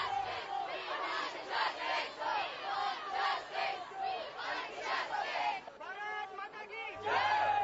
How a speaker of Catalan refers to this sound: I entre la multitud també moltes pancartes i diversitat d'eslògans que la gent ha cridat.